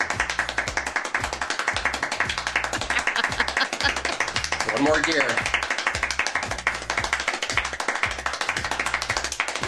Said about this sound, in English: I don't really get how this happens. What he's doing is clapping at the top of his hands and the base of his hands, a two-for-one clap. I think we have a demo of this, really? Let's listen.